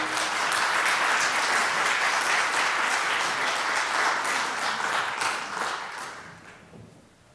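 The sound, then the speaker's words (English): A large church audience applauds steadily and enthusiastically as a speaker comes to the podium. The applause fills the room, dense and sustained for several seconds, before gradually tapering off toward the end. “Thank you for clapping for me.”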